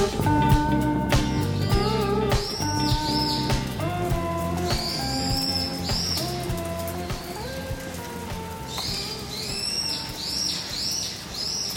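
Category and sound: bird, birds chirping in background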